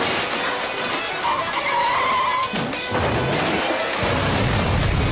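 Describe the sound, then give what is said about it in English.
A vehicle skids with a loud tire squeal, then slams into a number of cars and trucks with a heavy crash, followed by further rumbling impacts as more collisions pile up amid loud engine and road noise. “Here he is, he's cooking, and he's going to slam into a whole bunch of cars and trucks and kill people.”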